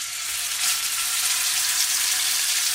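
Steady sizzling of an omelette frying in a hot pan, a dense crackling hiss that holds at an even level from start to finish, with no voices.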